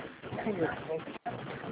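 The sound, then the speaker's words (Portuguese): Birds call in a steady, cluttered chorus, with low, soft cooing notes rising through a dense murmur that sounds like muffled voices. A brief gap of near silence interrupts it partway through. “Haja passarinheiro”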